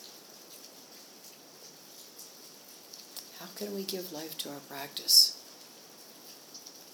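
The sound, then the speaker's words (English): Steady rain patters in the background throughout, a soft continuous hiss, while a man speaks briefly in the middle. “This rain, this life-giving rain.”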